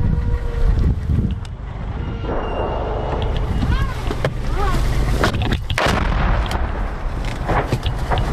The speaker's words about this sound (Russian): Буквально щойно, FPV-дрон.